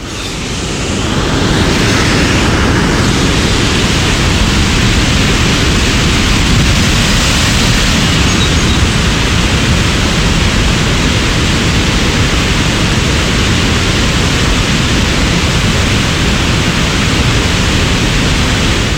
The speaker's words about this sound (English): But the sound of the falls is on all sides. Yes. It's not deafening, but it's loud. It's loud, and it sort of is just a constant kind of white noise rush.